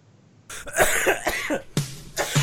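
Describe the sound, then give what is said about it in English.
A burst of several harsh coughs in quick succession, loud and raspy, followed by two more forceful coughs after a brief pause, with no talking. “Okay, let's draw some small sample stats so I can cough.”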